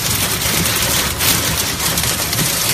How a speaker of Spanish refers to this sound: Es el sonido de la espectacular granizada que en la tarde de ayer jueves caía en la comarca del Bajo Cinca, en Huesca, y que provocaba importantes desperfectos en vehículos, huertos y fincas rústicas.